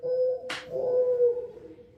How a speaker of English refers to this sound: This is the morning dove.